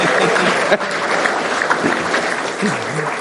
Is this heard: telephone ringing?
no